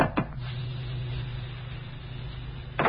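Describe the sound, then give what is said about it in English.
A door is opened, with a short clunk of the latch at the start and another knock near the end, over a steady low hum. No one speaks. “Well, we can open the door now and see for ourselves.”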